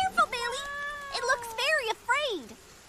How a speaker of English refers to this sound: Oh, it's just a cat. It seems to have a collar. It's probably lost.